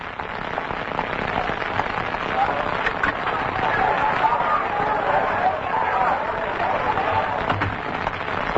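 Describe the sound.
An angry lynch mob roars outside, led by a drunk man carrying a rope, a dense, continuous clamor of many shouting voices blending into a steady, loud rumble with scattered sharper cries throughout.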